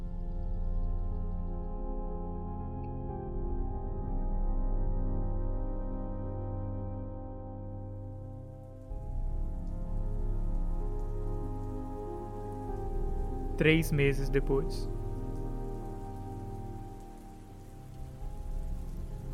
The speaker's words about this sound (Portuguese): Uma forte chuva cai do lado de fora da casa.